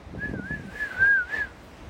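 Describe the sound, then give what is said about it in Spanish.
A person whistles at pigeons, one sustained, mid-pitched note that wavers gently up and down for over a second, over a low, quiet background rumble. “Putas palomas, ya no se les puede decir nada, ¿eh? Ya ni silbarles se les puede.”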